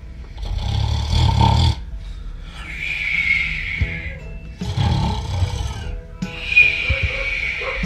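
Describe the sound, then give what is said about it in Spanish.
A person snores peacefully in a room of a home: two slow cycles, each a rumbling, throaty inhale followed by a long, breathy whistling exhale, with no talking. “Entraron en la vivienda y se metieron en una habitación donde alguien roncaba plácidamente.”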